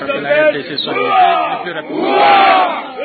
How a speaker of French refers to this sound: Ce sont là les cris de joie poussés par les 105 officiers des forces armées congolaises qui viennent de terminer leur formation.